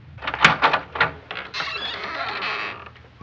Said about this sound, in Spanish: abrir la puerta y al hacerlo, miró a su primo Jairo.